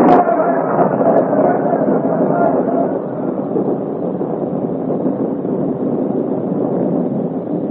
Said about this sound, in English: The storm has fought upon our side. They'll never find us in this downpour.